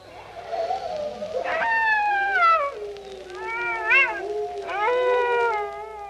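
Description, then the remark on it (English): Canine howls of dogs, jackals or wolves, played from a record, rise and slide in long, wavering cries, several voices overlapping in a mournful chorus that swells and fades over a few seconds, with no talking. “But there are other virus diseases which, if not as old as the hills, seem as old as the breeds of dog and jackal and wolf.”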